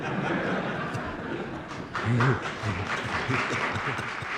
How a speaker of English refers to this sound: And the Senate room erupts in applause.